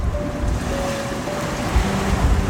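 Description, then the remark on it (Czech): Steady rushing of ocean waves, a broad continuous wash of surf with low rumbling swells and a faint tonal hum underneath, no voices present. “Nech šuměním vody pošeptat sobě, co nacítit máš v této době.”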